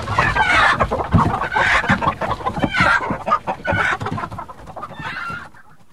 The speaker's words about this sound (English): Where's that damned hen got to? Come here, you brute!